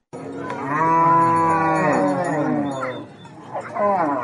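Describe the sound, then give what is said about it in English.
Cattle moo loudly, one long drawn-out bellow lasting nearly three seconds, then a second moo starting shortly after, with no talking. The herd of several hundred cattle belongs to pastoralists camped overnight at Kuburmandi Sin along a road on the eastern side of the Nile River in South Sudan. “Pastoralists and their several hundred cattle settled into camp overnight at Kuburmandi Sin along the road on the eastern side of the Nile River.”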